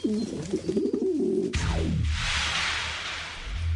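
pigeons cooing

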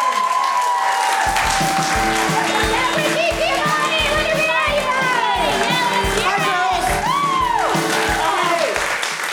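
audience cheering and screaming

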